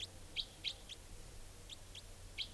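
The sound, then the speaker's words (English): A wild type 4 female bird gives a series of short, high chirping calls, about six notes in quick irregular succession, fairly faint over a low steady background hum. “And this type 4 female is calling here. Wild bird.”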